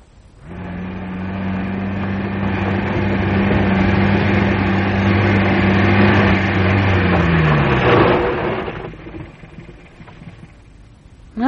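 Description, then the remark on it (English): A car engine, Craig's car, runs with a steady, low droning hum for several seconds, then its pitch sags and the sound dies down to a quieter rumble near the end. “There's Craig's car.”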